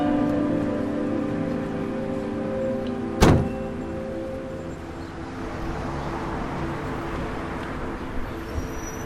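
A car's low engine hum drones as it stops on a city street, then one sharp door-like thunk cuts in and the hum dies away, leaving a steady rain-like hiss and two faint later clicks; a man steps out and takes his suitcase from the trunk. No one speaks.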